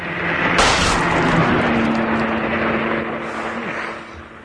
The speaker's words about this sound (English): Who was in that car? Who fired the shot?